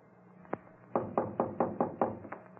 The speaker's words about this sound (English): I walked up the stairs and knocked on the front door, never expecting an answer.